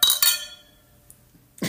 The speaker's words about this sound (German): Wollen wir mal kurz anstoßen, bitte? Auch das. Prost.